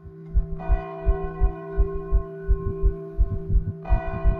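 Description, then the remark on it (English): Church bells ring with long, resonant overlapping tones, two fresh strikes swelling the sound while a steady low pulsing beats underneath. Fairly loud, with no voices. “And in the morning, if I didn't hear the gunshots at night, I would hear the bells ring.”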